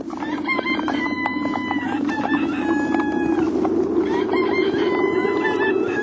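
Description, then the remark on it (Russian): Several roosters crow one after another at daybreak in snowy winter at the village of Zhadrino, over a steady farmyard murmur with scattered hen clucks. No one speaks. “Пели петухи, и было уже светло, как достигли они Жадрина.”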